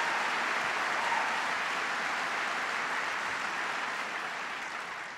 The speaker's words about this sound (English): And a wonderful member of Congress, I believe this is your district, is that correct, Mike? Mike Capuano. Please give Mike a big round of applause.